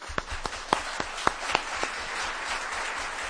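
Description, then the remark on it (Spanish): An audience gives a short run of sharp, evenly spaced hand claps, about eight in quick rhythm, trailing off into a soft wash of background noise with no voices. “vamos a dar un aplauso.”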